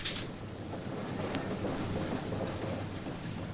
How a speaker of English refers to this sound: The three-car mail train rattled through the sparse Nebraska wheat fields west of North Platte.